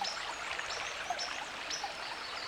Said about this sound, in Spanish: Mientras vas andando, sale a tu paso un pequeño arroyo. Un arroyo con sus aguas transparentes, cristalinas, y el pequeño ruido que se oye al salpicar en las pequeñas piedras que salen a la superficie.